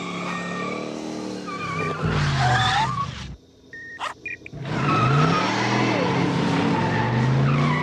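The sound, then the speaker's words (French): A car roars by with tires squealing and skidding loudly, the screech rising and falling, then a brief lull before the engine and squealing tires surge back. “Pas moi, la voiture.”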